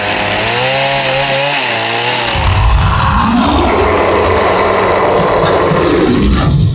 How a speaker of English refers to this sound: Just grab that electric knife and...